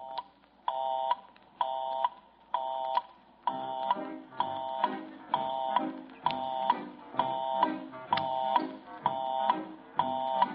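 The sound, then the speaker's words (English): A telephone busy signal repeats its steady, buzzy on-off tone about a dozen times in an even rhythm; partway through, a soft rhythmic music backing begins underneath. “If you should call any one of those busy lines right now, this is what you would hear.”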